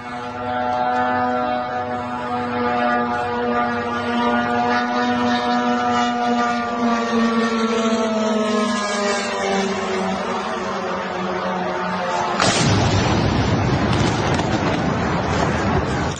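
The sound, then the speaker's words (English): The droning propeller engine of an IRGC drone buzzes steadily, its pitch sinking slowly as it approaches, then a sudden loud blast of impact as it strikes a U.S. hotel in Bahrain cuts in and rumbles on for a few seconds. “This is an IRGC drone versus a U.S. hotel in Bahrain.”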